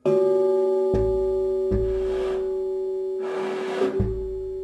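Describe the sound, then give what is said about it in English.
A struck metal missile rings like a gong, a steady sustained tone with bright overtones, renewed by three sharp strikes and two breathy scraping swells between them. No one speaks. “Some were like bells or gongs, others like drums, a meditative sound so starkly at odds with their violent purpose.”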